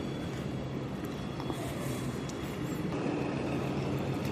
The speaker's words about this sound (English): Oh, and they're bringing another, I think that must be a shunter that they're bringing up to move the freight wagons.